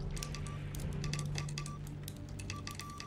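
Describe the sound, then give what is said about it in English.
A Morse code key taps out a run of short and long high-pitched beeps, each paired with crisp mechanical clicks, over a steady low electrical hum. “It drips onto a Morse code transmitter.”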